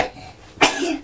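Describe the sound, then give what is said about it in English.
A single sharp sneeze bursts out after a moment of quiet, with a short breathy tail trailing off behind it. “bless you”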